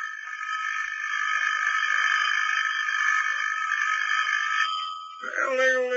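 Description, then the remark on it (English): A phone ringtone sounds on its own as a loud, steady, buzzy electronic tone held for several seconds, then jumps and slides into a lower, warbling pitch at the end. “Hannah, your phone's ringing.”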